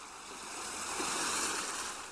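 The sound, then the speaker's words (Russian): Steady roar of ocean surf, a broad wash of breaking waves that swells gently louder in the middle and eases off, heard alone without any voices. “Прислушайтесь к звукам прибоя.”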